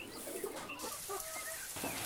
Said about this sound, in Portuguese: Crio os frangos em casa, as galinhas, os ovinhos.